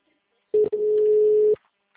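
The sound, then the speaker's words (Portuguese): A phone call's ringing tone while someone repeatedly calls a phone that has not been answered: a short blip, then a steady, buzzy mid-pitched tone held for about a second before cutting off, heard alone with no talking. “Ah, meu filho, você vai atender, vou te ligar até você atender.”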